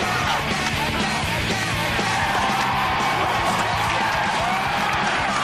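A loud street crowd in Manhattan shouts and yells continuously in an old Nike commercial, gathering as tennis stars Pete Sampras and Andre Agassi play a pickup game and police arrive, a dense roar of overlapping voices with whoops and bellows rising out of it, steady for several seconds.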